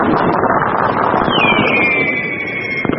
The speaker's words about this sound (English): just a tiny part of the billion people letting off fireworks all over China. What an incredible experience!